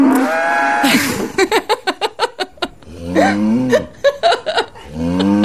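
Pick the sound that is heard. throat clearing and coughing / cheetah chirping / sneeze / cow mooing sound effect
cow mooing sound effect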